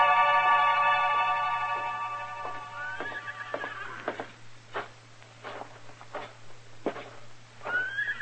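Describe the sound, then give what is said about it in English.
A horse in a stable gives a long, loud whinny that trails off, followed by scattered thumps and shuffling like hooves shifting, with a faint steady hum underneath and a brief second neigh at the end. “Where did you leave your horses, Jesse?”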